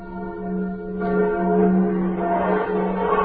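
The Liberty Bell, rung by pulling its rope at a ceremony, rings out with a deep, sustained toll, its rich overtones swelling and lingering as it is struck again partway through, loud and resonant with no voices.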